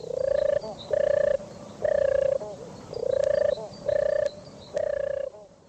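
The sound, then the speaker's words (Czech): A European turtle dove, Czech Bird of the Year 2019, coos in a soft, rolling purr: six steady, evenly pitched phrases that fall into three pairs, each lasting about half a second, with no voices present. “Ano, ptákem roku 2019 je hrdlička divoká, tradiční symbol lásky a víry.”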